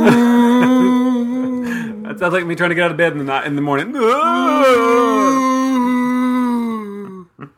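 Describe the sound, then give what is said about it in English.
Whale song: a whale's eerie song from the deep, a long, moaning, harmonic tone that holds steady, then bends and swoops up and down in pitch before fading out, while a person speaks over the middle of it. “Now, nature, have you ever just listened to a whale sing one of their eerie songs in the deep?”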